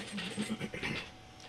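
throat clearing

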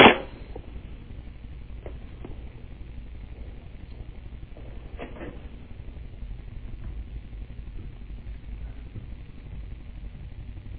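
papers being shuffled

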